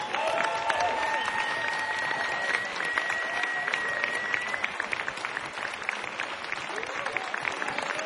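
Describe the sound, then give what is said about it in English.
An audience at Yoshi's jazz club, Jack London Square, applauds as bassist Charnette Moffitt is welcomed to the stage: dense, steady clapping that stays loud and even for about eight seconds, with a few thin, high whistle-like tones over it in the first half. “Will you please give a very warm round of applause and welcome to the stage, on bass, Charnette Moffitt.”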